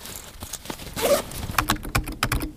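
Quick, irregular clicks of keyboard typing in the library at Campus Lingen, fairly soft, with a brief rustle partway through and no voices.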